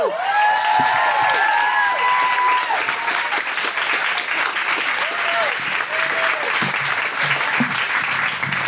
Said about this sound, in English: Oh, thanks. Thanks for clapping, because that's a long walk.